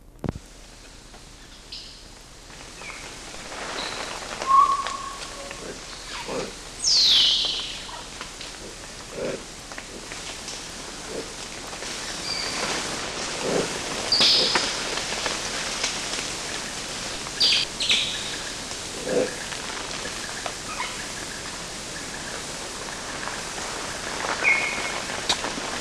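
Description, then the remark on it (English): Midas tamarin grunts from a study group, short and low and mostly from one adult female, come now and then from about twenty meters away, with an occasional high chirp, over a steady hiss of rain-like forest ambience. Recorded in Gogo on 13 July 1983 at 09:20. “Those were Midas grunts and an occasional chirp.”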